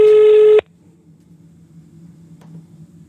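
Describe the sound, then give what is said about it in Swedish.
A phone call being dialed to see whether the person called answers: a single loud, steady electronic beep lasts about half a second, then cuts to a faint, low line hum. No one speaks. “Nu kollar vi om man svarar.”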